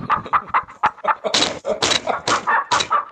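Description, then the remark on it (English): A chicken in a cage, being grabbed by the throat, clucks and squawks in a rapid, agitated series of loud bursts, with a few sharper squawks breaking through the steady clucking. “Grab that chicken by the throat. There he is, got him.”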